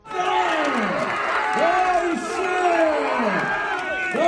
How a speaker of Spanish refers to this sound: Bueno, esto que en sí no dice nada, que solamente es gente gritando, cobra sentido cuando te digo que son 8 ucranianos, solamente 8 ucranianos, ojo, moviendo con las fuerzas de su propio cuerpo este pedazo de avión